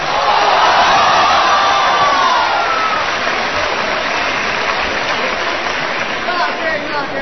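A crowd bursts into sustained, loud applause mixed with cheering and a few high whoops early on, holding steady for several seconds before easing slightly toward the end, as performers Guo and Yu Qian are welcomed on stage to present the classic act Wen Wu Shuang Quan.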